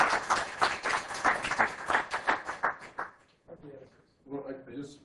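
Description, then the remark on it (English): At the end of a short physics talk, an audience claps together in a dense burst of applause lasting a few seconds, then it fades and a single voice begins talking. “Okay, you may clap.”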